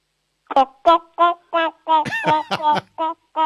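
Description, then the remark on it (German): A child's voice imitates a clucking chicken during a sound-imitation game: about ten short, bright vocal bursts in a quick, uneven rhythm, fairly loud, with nothing else in the background. “Ich hätte jetzt gern, dass du gackerst wie ein Huhn.”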